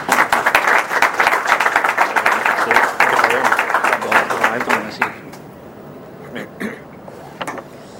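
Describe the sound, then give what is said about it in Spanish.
An audience at a talk on software development for the MSX computer standard, at an exhibition celebrating the MSX's 30th anniversary, applauds with a dense, steady patter of many hands for about five seconds, then the clapping thins out to a few scattered, fading claps. “Un aplauso para ellos.”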